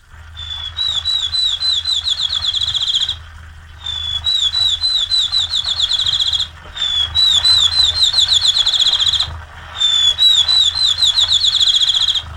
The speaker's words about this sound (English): the notes are shorter and come faster until it becomes a trill. And usually the trill rises or falls in pitch until it fades out. And the little field sparrow is a very persistent singer, and you'll even hear him sometimes on moonlight nights.